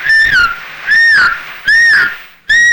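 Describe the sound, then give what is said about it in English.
A person whistles to call a horse: four loud, evenly spaced whistle bursts, each swooping up and then dropping, with brief pauses between and no talking. “We'd always whistle for a horse, you know. You want to hear me whistle for him?”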